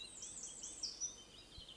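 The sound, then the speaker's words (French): Faint birdsong, a soft continuous chorus of high chirps and twitters outdoors, with no voices present. “Vous entendez les oiseaux ?”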